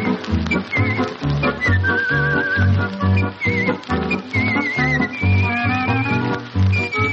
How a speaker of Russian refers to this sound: Подробней о художественном свисте минут через 20.